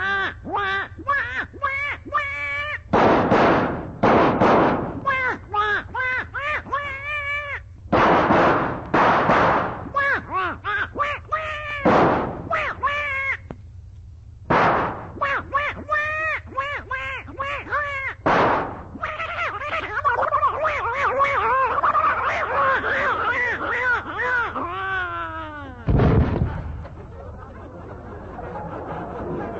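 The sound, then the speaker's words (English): Loud gunshots fired at a duck go off at irregular intervals, six or so sharp blasts, while the duck quacks frantically and almost nonstop in between, busy. “Quick now, everybody load up.”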